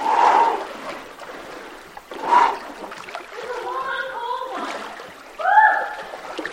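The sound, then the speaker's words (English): Water sloshes and splashes in a few heavy surges as someone wades through deepening water in a narrow canyon, with brief voices and yelps mixed in between the splashes. “The water slowly gets deeper and deeper until you're forced to take the plunge.”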